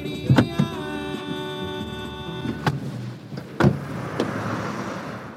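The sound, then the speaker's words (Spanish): Car door sounds as a passenger gets out of a car on a street: a few sharp latch clicks, then solid thuds as the door opens and shuts, over a steady tonal engine hum that stops midway, leaving quiet street ambience. “Al bajarme del coche afuera de la Preven, veo a unos 3 o 4 hombres sentados en la banqueta”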